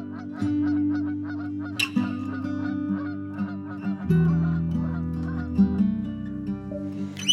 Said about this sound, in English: Skies all open wide, geese go high and over.